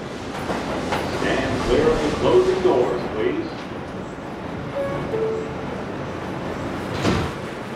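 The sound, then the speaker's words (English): Steady rumble of a subway car in motion, with indistinct voices in the background, brief metallic whining tones partway through, and a thud near the end like doors sliding shut. “So I head into the subway”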